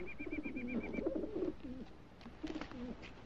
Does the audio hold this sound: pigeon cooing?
yes